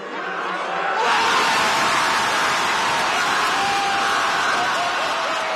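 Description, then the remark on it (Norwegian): After a brief moment of quieter murmur, a large outdoor crowd bursts into a loud, sustained roar of joy that stays steady and dense until the end. The crowd is opponents of President Yoon Suk-yeol, outside South Korea's Constitutional Court, cheering his removal from office. “Et gledesbrøl fra president Jon Suk-yeol sine motstandere utenfor den sørkoreanske grunnlovsdomstolen.”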